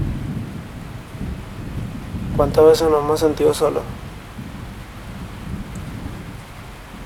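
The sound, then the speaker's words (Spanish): A thunderstorm rumbles steadily, low thunder rolling under a constant wash of rain, while a voice speaks briefly over it midway through. “¿Qué se siente cuando inicia una tormenta?”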